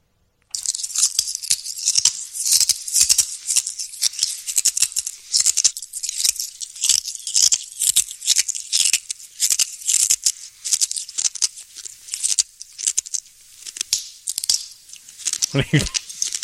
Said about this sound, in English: No, just this is a guy who enjoys eating glass. I guess it's painless for this person to eat glass.